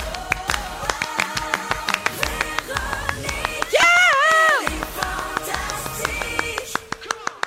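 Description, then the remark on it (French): Steady applause from an audience at the start of a show, a dense patter of many hands clapping throughout, with a brief loud whistle or cheer rising over it midway. “Ça, c'est de l'applaudissement.”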